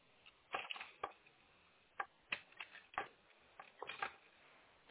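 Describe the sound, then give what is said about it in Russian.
Several sharp plastic clicks and taps, irregularly spaced and quiet, as a network cable is fiddled with and pushed into the blue port of a router until it snaps in. No one speaks. “Все вроде до щелчка.”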